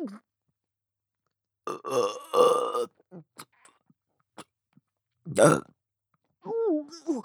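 loud vulgar burp

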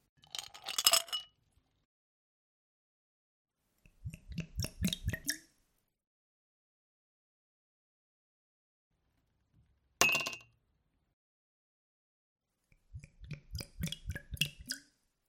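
glasses clinking

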